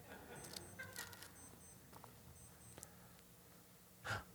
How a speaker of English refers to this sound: Somebody's watch is beeping over there.